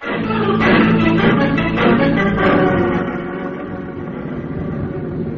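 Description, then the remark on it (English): A steady engine rumble of a car giving a passenger a lift back to the hotel, with a low droning hum and tonal whine that swells in the first half and then settles to a slightly quieter, even drone. “I'd like to see how it feels to ride with someone who's carrying so much cash.”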